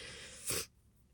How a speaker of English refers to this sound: I'm sorry about sniffling. I know it's disgusting.